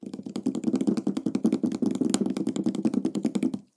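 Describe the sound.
Rapid, continuous fingertip tapping on a tabletop, a dense patter of many light knocks imitating rainfall, fairly steady in loudness for a few seconds.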